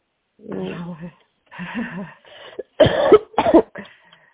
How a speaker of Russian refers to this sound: Да, я уже девчонок раздражаю, кашляю.